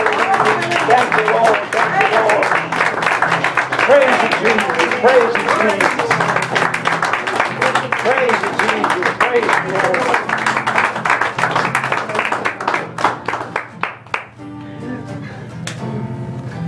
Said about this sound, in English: Let's give a hand clap of praise tonight.